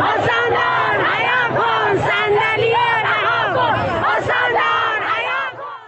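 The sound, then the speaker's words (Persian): A large crowd of residents of Shahrekord, protesting in the streets over an ongoing water problem, chants and shouts in unison, many voices rising and falling in rhythmic, repeated bursts, loud and continuous throughout with no single voice standing out. “اما همچنان مشکل ادامه دارد و کاسه صبر مردم لبریز شده و به خیابان‌ها آمدند.”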